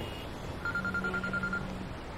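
A mobile phone rings with an incoming call from Mom, a short burst of pulsing electronic tones, fairly quiet and heard alone over a faint low hum, with no one speaking.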